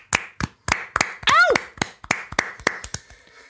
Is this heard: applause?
yes